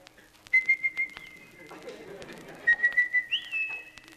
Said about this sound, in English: And one thing, you do have to have a return whistle when you send him out to hunt, and you got to get him back some way. And this is mine.